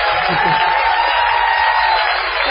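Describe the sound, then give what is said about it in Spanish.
A large audience gives a steady, loud ovation that fills the whole moment, dense and continuous, with a faint murmur of voices briefly underneath near the start. “Vamos, ya que estamos aquí, a prodigarle a Patricio Barton una ovación desmesurada.”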